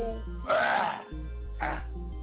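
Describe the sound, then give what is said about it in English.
A voice clears its throat in two rough bursts, a longer rasp followed by a shorter one, fairly loud over steady background music, on the hip-hop radio broadcast True West Radio. “Let me clear my throat.”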